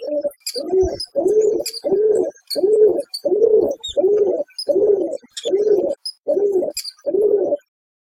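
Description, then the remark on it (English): A steady series of about a dozen low, throaty pigeon-like coos from creatures congregating outside a home repeats in an even rhythm, with faint higher chirps from other birds scattered above and no one talking. “One victim even caught video of the animals congregating outside their home.”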